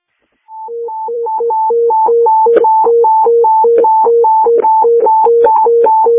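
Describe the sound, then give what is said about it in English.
Fire dispatch alert tones for a structure fire call on West Pearl Street: a loud electronic signal rapidly alternating between a higher and a lower pitch in a steady repeating pattern, with faint radio crackle and clicks and no voices. “CECOM, can you dispatch out the call on Pearl again? We got no tones there.”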